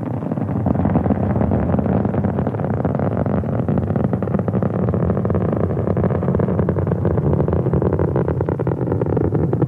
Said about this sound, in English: Now rolling over, the crew on their back in their seats by the force of the giant rocket engines as Discovery roars into a brilliant blue sky.